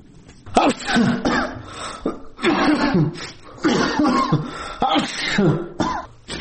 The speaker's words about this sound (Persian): در بستر بیماری عطسه می زند.